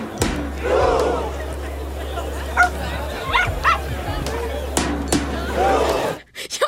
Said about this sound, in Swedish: Att man mest har en gläfsande hund.